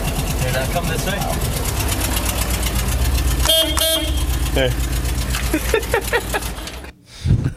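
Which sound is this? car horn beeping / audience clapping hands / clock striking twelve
car horn beeping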